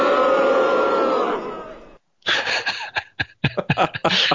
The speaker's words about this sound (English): By the way, that was the boo.